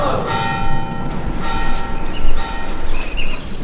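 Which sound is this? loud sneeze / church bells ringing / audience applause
church bells ringing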